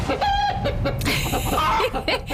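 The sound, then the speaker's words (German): Young hens, only a few days at a home, cluck and cheep in a busy overlapping chatter of short, high calls that continues steadily for a couple of seconds with no one speaking. “so klingt das bei mir zu Hause jetzt. Die Hühner von Nikiforov sind jung, sind gerade ein paar Tage da.”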